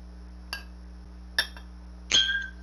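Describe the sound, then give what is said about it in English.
Glasses clink together three times in a toast, each a bright, ringing chink, the last one louder and ringing out longest over a low steady hum. “Cheers, boys. Cheers, everyone.”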